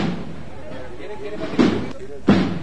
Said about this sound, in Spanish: Mientras sigue sonando los tambores, es el único sonido que ahora nos ofrece la banda del Santísimo Cristo de la Caridad, antiguo Santa Marta.